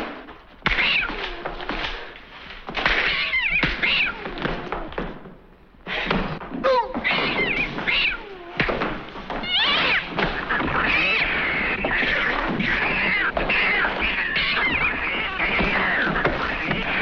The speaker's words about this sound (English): Like literally, there's literally a fight where Ginger Rogers is fighting and all you hear is like the sound of cats.